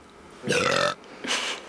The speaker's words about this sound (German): … hat Anna angerülpst und reicht ihr die Flasche.